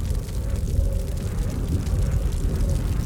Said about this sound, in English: Yes, it's a plane. A rescue plane. A plane! Overhead!